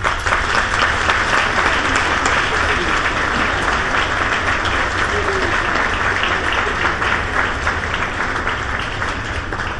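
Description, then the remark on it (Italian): Sustained audience applause welcoming a speaker, an author, fills the whole stretch, a dense, steady crackle of many hands clapping at an even, loud level with no pauses and no voices standing out. “Lo accogliamo con un bel applauso.”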